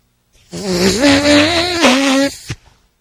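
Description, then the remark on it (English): A loud, drawn-out whoopee cushion fart as a man sits down on it placed on his chair, a raspy buzzing blat lasting almost two seconds with a wavering pitch, ending in a brief soft thump. No one speaks over it. “All right, so it made a fart noise.”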